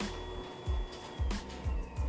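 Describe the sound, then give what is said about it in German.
A printer right beside the recorder prints something, with rhythmic mechanical thumps roughly every half second, low rumbling pulses over a steady whirring hum and a faint high whine, fairly close and moderately loud. “Der Drucker neben mir druckt gerade da irgendwas, darum ist es jetzt kurz ein bisschen laut.”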